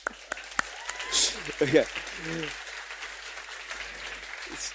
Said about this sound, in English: It's our weekly ritual as a church that we have one of your olive oil, and I just want to give you a quick applause for it.